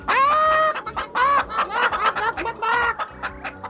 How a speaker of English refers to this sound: we bulldozed several chickens who were foolish enough to stand in our way. They were pecking gravel and seeds and other garbage that chickens eat, and you should have seen them scatter when we went zooming across the gravel drive.